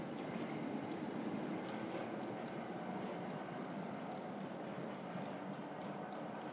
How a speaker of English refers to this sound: Now the train has moved, I can tell, looking across, that there are windows looking out onto the river.